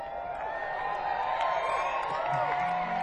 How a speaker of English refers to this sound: Those sounded like female woos also. So that's a good sign.